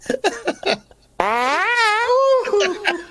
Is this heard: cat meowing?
no